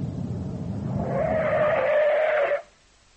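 A car engine rumbles as a car approaches with its lights on, then tires let out a long, loud, steady screech for about a second and a half before everything cuts off abruptly. No one speaks.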